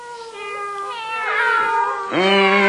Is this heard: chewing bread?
no